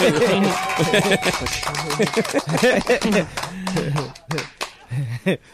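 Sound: clapping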